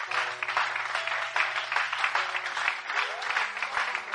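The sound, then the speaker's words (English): An audience at a Christmas church service claps for Jesus in a steady, dense wash of clapping that runs unbroken for several seconds, with faint sustained low tones humming beneath it. “God, clap for Jesus.”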